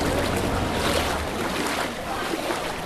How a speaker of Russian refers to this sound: Вот, кстати, удивительное наблюдение. Здесь такой узкий канал, что гондольер, чтобы повернуть на соседнюю улицу, просто оттолкнулся ногой от соседней стены, развернул гондолу и с помощью весла въехал в нужное ему русло, скажем так.